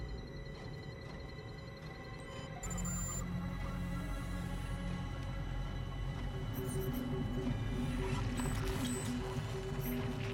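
A 3D printer in a dining area whirs into operation as it begins printing a handgun, its steady motor hum and stepping tones growing slightly louder after a few seconds, then running continuously with no voices.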